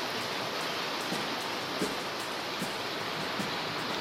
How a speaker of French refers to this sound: Vous entendez la pluie?